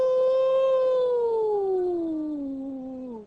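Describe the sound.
A single long wolf howl, loud, holding a steady tone before sliding slowly downward in pitch over about three seconds, then cutting off.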